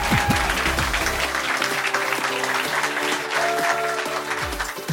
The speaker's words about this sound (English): So can we get a round of applause for all the teams, please? Really great stuff.